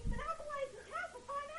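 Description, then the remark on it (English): A cat meows three times in a row, drawn-out, whiny cries that rise and fall in pitch, moderately loud with no other sounds around them. “My cat's asking his computer, too, but...”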